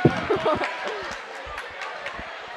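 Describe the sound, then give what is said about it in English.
A noisy crowd with scattered shouts and whoops, a few sharp claps or thuds, and overlapping voices for a couple of seconds: both teams cheering and celebrating on a court as a game ends after a rally. “I'm confused as to who won. Me too, because they're both cheering.”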